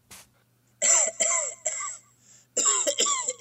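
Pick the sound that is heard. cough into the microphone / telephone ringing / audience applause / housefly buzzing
cough into the microphone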